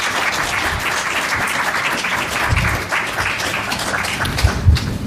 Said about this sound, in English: So if we can just give Alan a round of applause, and we'll just take a seat over here and we'll start a discussion.